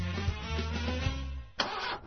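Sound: car engine cranking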